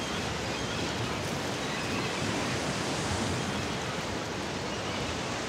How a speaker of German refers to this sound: Wellen.